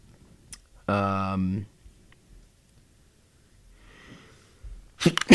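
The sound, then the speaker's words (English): A single loud, voiced sneeze bursts out near the start, followed by quiet breathing and soft rustling, then a brief sharp noisy burst at the very end. “God bless you.”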